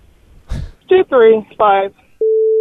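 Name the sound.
telephone busy signal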